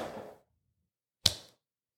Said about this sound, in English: I just slapped myself and still missed that fly.